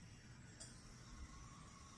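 A single quiet clink of glasses touching, with a soft ringing tone lingering briefly over a low background hum. No one speaks.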